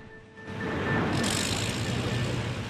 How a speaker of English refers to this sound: A digger deposits its bucket load of soil onto the back of a dumper truck.